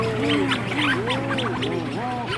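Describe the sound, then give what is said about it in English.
A busy seabird colony at night, birds out of their burrows socializing: overlapping low, moaning, moo-like calls that swoop up and down in pitch, with higher chattering 'hootalootu' storm petrel calls mixed in, steady and loud with no talking. “rhinos start coming out of their burrows and socializing, and that's when they really start mooing.”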